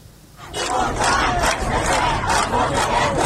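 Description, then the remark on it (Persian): Angry men and women protesting in the streets in Iran, after the death of Mahsa Amini, shout together in loud, surging waves of voices, the chanting rising sharply after a quiet start and staying intense and continuous throughout. “دخترانی که روسری‌هایشان را به آتش می‌کشند، مردان و زنان خشمگینی که در خیابان‌ها فریاد می‌کشند، و آن سو شلیک گلوله و گاز اشک‌آور، باتون و شوکر، سرکوب و سرکوب.”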